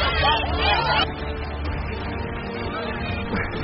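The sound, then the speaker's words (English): A dense murmur of many overlapping voices, with no single voice standing out, fills the space at steady loudness from a busy crowd milling about at an amusement park. “Watch the crowd.”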